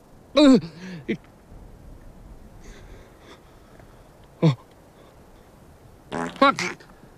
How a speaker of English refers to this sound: You pig. You just did a tortoise fart right in the middle of my comedy special.